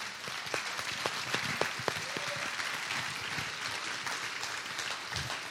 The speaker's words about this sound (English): If you went to camp with us, then if you would stand up so we can give you a big round of applause.